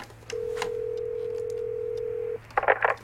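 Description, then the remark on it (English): A steady telephone dial tone hums for about two seconds, then stops, followed by a quick run of three or four touch-tone beeps as the number of a fax machine is punched in on a phone. No one speaks. “I'm calling the number.”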